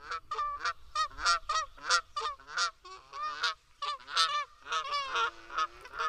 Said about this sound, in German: Natürlich, das sind Gänse, die kommen angeflogen, gerne zu ganz, ganz, ganz vielen.